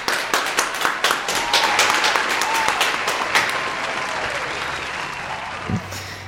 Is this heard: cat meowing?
no